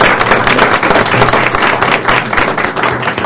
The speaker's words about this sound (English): Thank you very much. Congratulations. If you'd like to, yeah, applause is appropriate here.